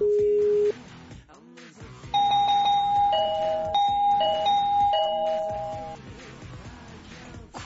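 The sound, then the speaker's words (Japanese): An electronic doorbell chime rings over and over in quick, irregular succession, its bright tones overlapping and layering into a cluttered, insistent jangle that stays loud. “ふざけたチャイムの鳴らし方は妖怪か。”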